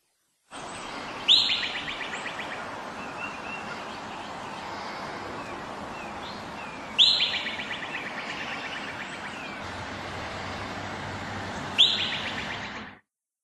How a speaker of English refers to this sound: That is the Whistle Pig. The Whistle Pig. The Whistle Pig. What a great name. What the hell is a Whistle Pig? A groundhog.